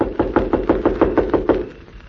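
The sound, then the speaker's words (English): A rapid series of about nine sharp knocks on a door, evenly spaced, followed by a brief quiet pause with no voices. “Now remember, I'll knock, the doll will answer, and then I leave.”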